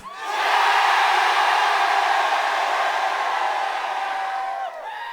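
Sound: audience cheering loudly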